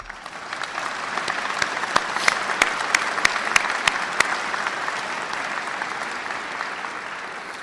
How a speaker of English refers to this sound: And many of these families are with us today and join me in applauding their perseverance.